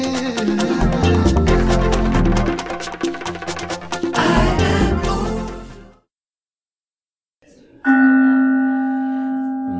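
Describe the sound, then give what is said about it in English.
Bells clang and ring densely for about six seconds, then stop. After a brief silence, a single loud bell toll strikes and its tone hangs, slowly fading, at a Sunday Celebration of the Center for Spiritual Living in Huntsville, Alabama. “For whom the bell tolls, y'all.”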